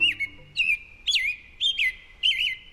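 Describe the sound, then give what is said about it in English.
An American robin calls in a steady series of five bright, warbling phrases about half a second apart, clear, with no voices. “This American robin will lay one egg per day for 3 to 4 days.”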